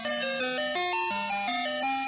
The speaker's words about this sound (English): the official 10 hours of the original ice cream song on loop.